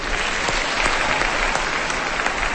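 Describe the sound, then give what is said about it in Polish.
Steady audience applause for the performers at a concert, before its second part, fills the whole stretch, a dense, even wash of many hands clapping at once with faint individual claps popping through, no voices over it. “Wielkie brawa dla artystów!”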